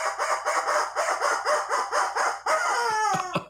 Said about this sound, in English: I mean, the rubber chicken says.